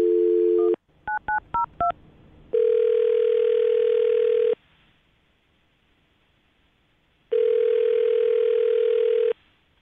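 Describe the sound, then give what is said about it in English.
A steady dial tone cuts off into five quick touch-tone beeps, then two long, even ringback tones sound with a silent pause between them, as a phone call is placed on the Brook and Jubal in the Morning radio show. No one speaks. “Are you about ready to give her a call?”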